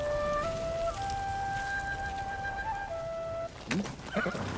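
Steady rain falls as a soft, even hiss throughout, beneath a sustained melody played on a flute, and a sharp horse whinny breaks in near the end.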